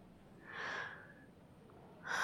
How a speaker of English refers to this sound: Are you sick or something? You sound like you're holding back a cough.